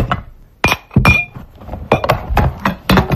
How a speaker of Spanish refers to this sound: Es el sonido hasta ahora en muchas casas de toda España, el de los platos, los vasos y los cubiertos que se están poniendo en la mesa antes de la comida de Navidad.